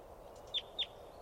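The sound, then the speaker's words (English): A wild adult female bird chittering as she comes down: two quick, sharp, high-pitched chirps about a quarter second apart, standing out clearly above a steady low background hiss. “It's a wild one chittering and coming down. It's an adult female.”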